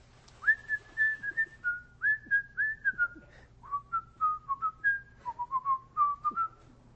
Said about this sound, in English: I'll whistle a tune and you tell me what it is.